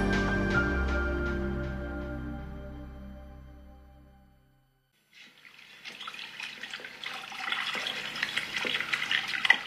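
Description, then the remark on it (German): A sustained tonal chord fades out. After a brief silence, a tap runs steadily at a sink in a station restroom in Philadelphia, splashing and hissing as a man, a policeman, washes his hands. “In der Bahnhofstoilette von Philadelphia. Ein Mann wäscht sich die Hände.”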